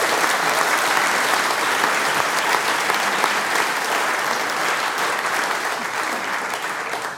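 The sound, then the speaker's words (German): Sustained, steady applause from an audience for a child soloist and the whole children's choir, dense rapid clapping at an even loudness for several seconds with no talking over it. “Sie kriegen einmal einen großen Applaus und der gesamte Chor.”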